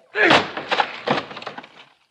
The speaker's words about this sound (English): Well, then come on, man. Help me break down this door. Right. Once more ought to do it.